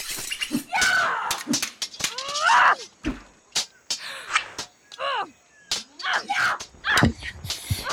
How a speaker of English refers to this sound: We found Morgan Le Fay, the Banshee. She's appeared right in front of us and screamed. It knocked me off my feet.